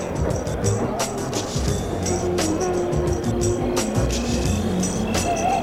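car engine starting

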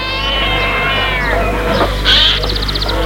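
cat meowing

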